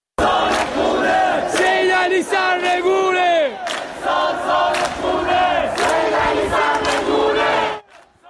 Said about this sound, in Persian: معترضانی که در شهرک اکباتان به یکی از حلقه های اصلی اعتراضات در ماهای گذشته تبدیل شده بودند و حضور شبانه مردم این شهرک و شعار علیه حاکمیت به یکی از نقاط اصلی درگیری نیروهای امنیتی و مردم معترض در تهران تبدیل شده بود.